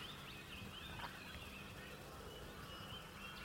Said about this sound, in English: Begin to be bathed by the sound of the birds, some of the other creatures in this recording.